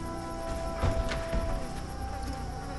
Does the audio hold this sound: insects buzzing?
yes